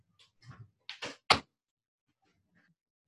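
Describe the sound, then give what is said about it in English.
A door is pushed shut: a few soft scuffs and creaks as it swings, then a sharp latching thud that ends abruptly, followed by quiet. “I'm gonna close my door.”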